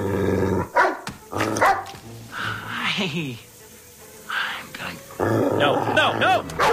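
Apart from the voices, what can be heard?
dog barking and growling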